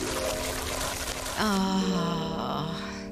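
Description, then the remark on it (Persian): Coconut water is poured into a container, a steady gurgling stream whose pitch climbs as the vessel fills, running for about two seconds after a brief noisy lead-in. “با یکم آب نارگیل چطوری؟”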